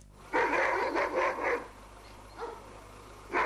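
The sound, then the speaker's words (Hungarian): Stray, feral dogs bark in Gönyű, Győr-Moson-Sopron county, in a quick, overlapping burst of several loud barks, then after a pause come a fainter single bark and one more louder bark, with no one talking. “Kilövik a kóborkutyákat a Győr-Moson-Sopron megyei Gönyön, az ott élők védelmében döntött így a helyi kormányzat, mert egyre több a kutyatámadás.”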